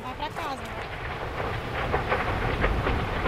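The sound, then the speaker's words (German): A dense, steady roar of a fire burning through dense, still-standing rainforest, its flames hurling trees metres into the air. It is loud, with crackling bursts and a rushing, wind-like surge that swells slightly toward the end; a faint voice-like tone sounds briefly at the start. “Die Flammen donnern, brausen und schreien, schleudern Bäume meterhoch in die Luft.”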